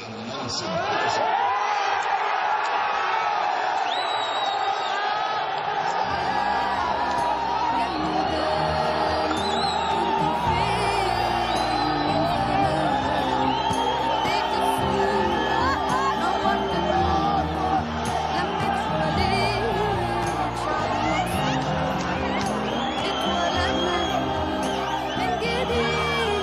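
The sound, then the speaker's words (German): A large crowd cheers and roars continuously, dense shouting and whooping, with chanting voices rising and falling in a steady rhythm throughout, loud and unbroken: the jubilation of February 2011 after the announcement that President Mohammad Hosni Mubarak was giving up the presidency. “Fünf Jahre später ist der Jubel vom Februar 2011 lange verklungen.”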